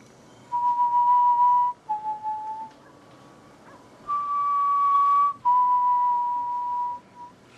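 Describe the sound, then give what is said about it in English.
An eerie whistled tune of a few long, sustained notes that shift slightly in pitch, with brief pauses between phrases. The whistling is clear, with no talking. “And as he would creep up upon their tents, he would whistle.”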